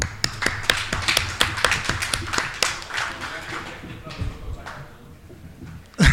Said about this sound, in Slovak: takže ešte raz im gratulujem, šíria dobré meno nášho mesta, takže ja si myslím, že si zaslúžia potlesk.